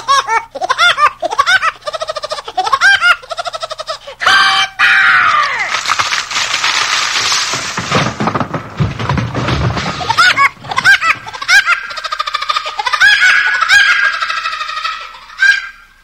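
A cartoon woodpecker theme song, with a high, cackling staccato laugh repeating in bursts over a loud, busy band and a dense, noisy stretch midway.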